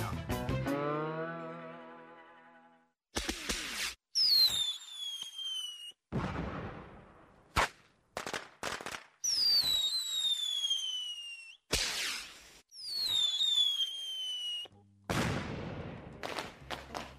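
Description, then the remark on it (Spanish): Fireworks going off in Argentina in a rapid series of loud bangs and sharp cracks, with high descending whistles from rockets between the bursts and crackling fizz trailing after several blasts. “Empezaron los fuegos artificiales.”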